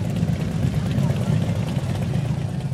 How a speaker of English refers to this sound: Dozens of veterans rode their motorcycles to the cemetery on Saturday.